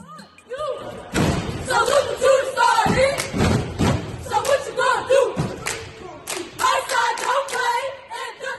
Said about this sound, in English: The Stomp and Shake cheerleaders, they're stomping. They're making different rhythms or beats with their feet